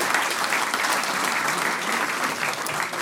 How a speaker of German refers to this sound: Ein Sonderapplaus.